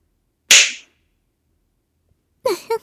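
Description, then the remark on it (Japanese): A single sharp whip crack lands loud, fading quickly, followed by about two seconds of silence and then a brief vocal sound. “ちゃんと一発ずつ、心を込めて鞭打ってあげてね。”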